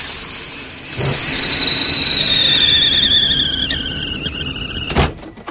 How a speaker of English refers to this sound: David walks back into the kitchen where the kettle is already steaming furiously and spitting out boiling water.